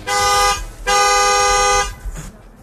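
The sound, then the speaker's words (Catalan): A car horn honks twice: a short blast, a brief pause, then a longer sustained one, both loud and steady-pitched over a low rumble, followed by faint murmuring. “El podem recuperar, el so de claxon, sisplau?”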